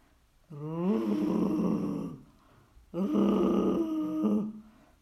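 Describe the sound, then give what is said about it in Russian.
A bear growls twice at a little hut, each a loud, deep, rumbling growl lasting over a second and a half, separated by a short pause. No one speaks. “Прошел медведь к избушке и зарычал.”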